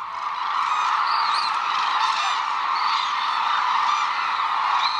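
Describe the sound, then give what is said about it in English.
A large flock of hooded cranes at a wintering reserve on Kyushu, Japan, calls together around sunset in a steady, dense chorus, overlapping bugling voices filling the air continuously at a fairly loud level with no pauses. “Most of the world's hooded cranes winter at one reserve on Japan's southern island of Kyushu, calling together around sunset.”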